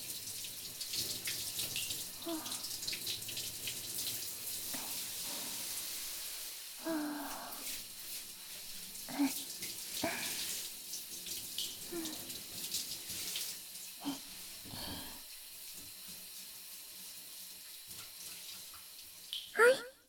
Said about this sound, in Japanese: 泡を流しますね。 背中の方から流して、腕と手の先の方まで泡が残らないようにしっかり流していきますよ。